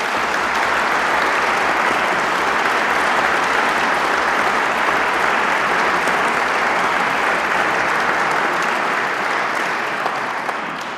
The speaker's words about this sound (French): Je demande aux lauréats historiens de se lever et je vous demande de les applaudir.